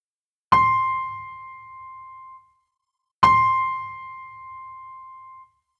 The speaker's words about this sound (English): You will hear 2 tones. Do these tones sound high or low?